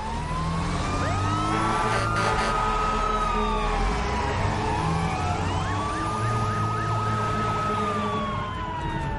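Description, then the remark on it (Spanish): Several fire engine sirens wail and sweep up and down at once, loud, over a steady rumble of heavy engines as the fire engines pull away from the fire station to respond to a building fire on 11th Avenue. “Suben a los coches y salen del parque.”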